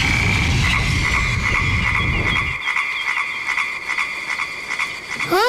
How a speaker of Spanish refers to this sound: Concierto de ranas.